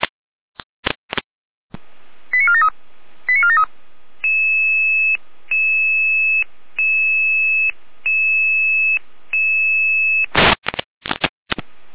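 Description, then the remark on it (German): Dispatch radio alerting tones of a test alarm call to Florian Seifert-Rudelstadt, group 6: a few sharp clicks, two short warbling tone bursts, then a steady beep repeating six times at an even pace, ending in more bursts of static clicks. “Jede Alarmierung.”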